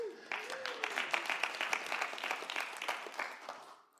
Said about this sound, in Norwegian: Gi han en applaus.